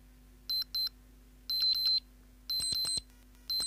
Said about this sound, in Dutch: Wel een zacht piepje, maar... Ja, oude klokjes werden tevoorschijn gehaald en de piepjesmania was een feit.